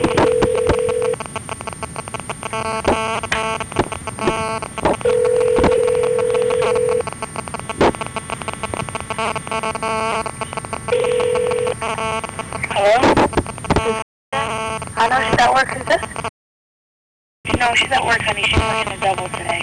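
A telephone call being dialed rings on the line on March 30, 2005, around 3:35: steady ringback tones repeat every few seconds over a hissy, muffled line, followed by some clicks and brief noise before the line cuts out.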